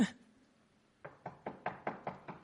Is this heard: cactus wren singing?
no